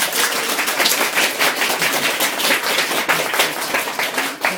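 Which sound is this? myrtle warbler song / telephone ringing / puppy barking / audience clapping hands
audience clapping hands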